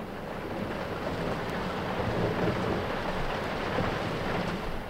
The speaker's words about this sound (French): L'orage n'est pas loin. Allons vite nous mettre à l'abri. J'ai peur de l'orage. Il ne faut pas, mon enfant. L'orage est aussi une des voix de la nature.